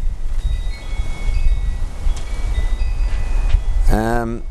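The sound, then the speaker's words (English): Strong wind buffets the microphone in a continuous, heavy low rumble with fluttering gusts, and a person's voice briefly begins just before the end. “It's, you can hear how bloody windy it is at the moment.”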